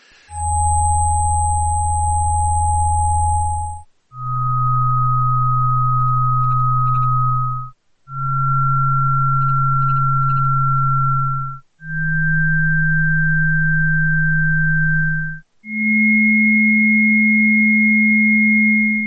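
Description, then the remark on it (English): Five loud, steady electronic tones, each held for about four seconds with only brief breaks between them, stepping higher in pitch from one tone to the next, with no voices. “There'll be 5 tones.”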